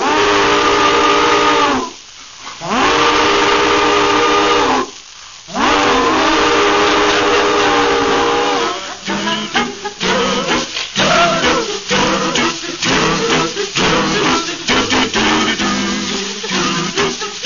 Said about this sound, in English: It keep boiling right in my mind. It go running through the night. That train of railroad cars snorting and sparking underground through the earth.